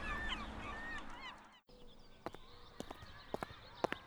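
A crowd of seagulls squawk and cry over one another, loud. After a brief cut, scattered sharp knocking taps follow, with fainter calls in the background.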